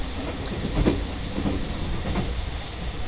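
The Hokutosei overnight sleeper train rolling along the rails: a steady low rumble with soft, evenly spaced wheel clacks roughly every second, moderately loud, with no voices.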